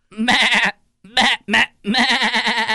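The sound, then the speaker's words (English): A person imitates a goat's bleat in several quavering, nasal bursts: a long wavering call, two short ones, then another long trembling bleat, loud. “Producer …, let me hear your goat”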